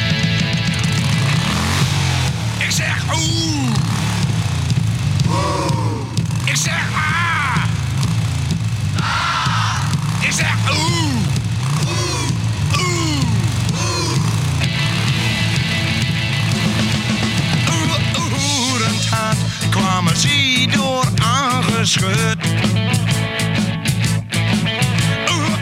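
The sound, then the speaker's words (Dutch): A loud Dutch-language rock record in Achterhoek dialect plays steadily throughout, with sung vocals gliding over a dense guitar-and-drum backing and engine-like revs rising and falling within the music. “Ben je gewoon eens even een Nederlands of een Achterhoeksplaatje, laten we zeggen.”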